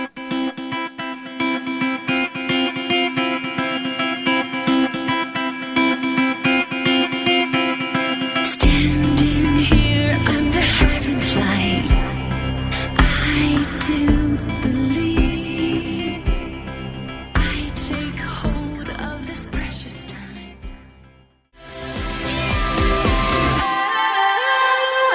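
A pop rock song with female vocals opens on a sustained, effect-heavy intro before drums and distorted guitars crash in loudly, driving steadily until a brief break near the end.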